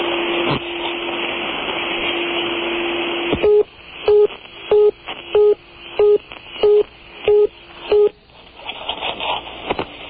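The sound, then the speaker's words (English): After a number is redialed, a steady telephone line tone with hiss gives way to a fast reorder signal: about eight short, loud, evenly spaced beeps pulsing twice a second before the line falls back to static. “That was a Rainy in Reorder.”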